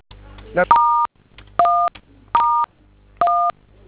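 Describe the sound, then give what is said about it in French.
Four distinct telephone keypad tones, each a steady dual-pitched beep lasting about a third of a second, pressed at an even pace with short pauses between them, loud, as a code is dialed on a phone. “Vous composez le code là sur votre téléphone.”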